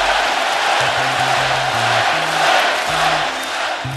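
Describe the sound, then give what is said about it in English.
A large crowd at Oracle Arena chants "Klay" for Klay Thompson in a steady repeating rhythm, loud and sustained over a dense roar of cheering, during his 60-point night in a December 2016 Golden State Warriors win over the Indiana Pacers. “The crowd is chanting Klay.”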